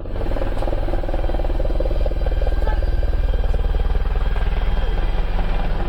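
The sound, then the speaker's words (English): A U.S. Air Force Apache military helicopter flies along the boardwalk of a small fishing village on South Korea's west coast at 6 p.m., its rotor blades chopping in a fast, steady rhythm over a deep engine roar that stays loud and constant throughout. “in the small fishing village of Mae-ha-ni, and a U.S. Air Force Apache helicopter flies along the boardwalk.”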